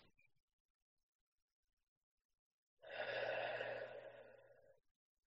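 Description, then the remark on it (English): A slow, deep breath taken during a guided breathing exercise, one long airy exhale lasting about two seconds after a stretch of near silence. No one speaks. “And we'll just take a couple of breaths together. And you can just follow my breathing and breathe at home.”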